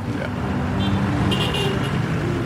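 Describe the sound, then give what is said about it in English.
Steady roar of street traffic in Bali with rumbling engines, and a short horn toot sounding partway through amid the dense, continuous road noise. “It's really huge, because you see the traffic, how crazy it is.”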